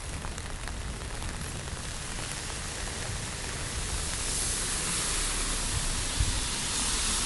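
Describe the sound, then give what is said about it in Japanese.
Steady rain patters on an umbrella overhead, a dense, continuous hiss of drops that stays even throughout, with no voices. “傘の下で話すと雨の音も僕の声もみんなこの傘の柄の方に向かって集積されて、その集積された世界を僕が今こうステレオで聞いてるという感じ”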